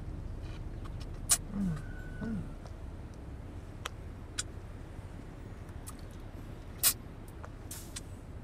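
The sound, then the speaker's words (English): A car engine idles in traffic with a steady, low rumble that stays constant throughout, heard from inside the vehicle, broken by a couple of brief sharp clicks and faint rustles. “As we sit idle in traffic.”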